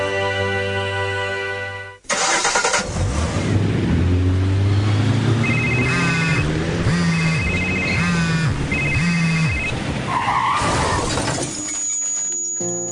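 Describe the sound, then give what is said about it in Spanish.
A car crash: tires squeal in wavering, rising screeches, then metal and glass crunch and shatter in a loud, chaotic impact before the noise settles into a low hum. “Grabar muchas veces este accidente.”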